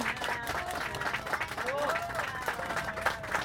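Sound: audience applause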